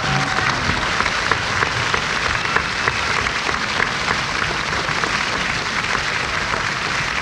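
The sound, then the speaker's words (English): A large audience applauds for a musician as he is introduced, with many hands clapping in a dense, steady roar that holds at an even loudness throughout, without voices over it. “Let's give him a nice round of applause.”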